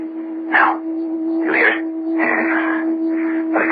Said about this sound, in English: Like a high-frequency hum. Where's it coming from? You tell me.